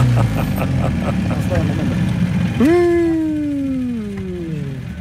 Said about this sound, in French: Enfin, heureusement, il reste le bruit des portables et des moteurs.